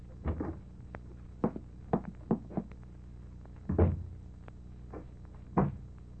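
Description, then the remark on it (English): A door being opened: a series of muffled clunks and rattles from the handle and latch, spread unevenly over several seconds, with a few faint clicks between and no voices. “And the opening of this door introduces us to another in the series”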